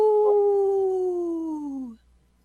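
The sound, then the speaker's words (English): A single wolf howl, one long sustained tone that holds steady and then slowly slides downward in pitch before cutting off after about two seconds, heard clearly on its own. “Oh, man, y'all left me hanging with that lone wolf.”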